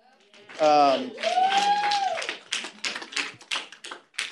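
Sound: audience clapping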